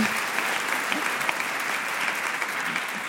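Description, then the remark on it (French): Steady audience applause, a dense, even wash of many hands clapping that holds at a consistent, fairly loud level for a few seconds without any voices over it. “Et ça, ça s'applaudit.”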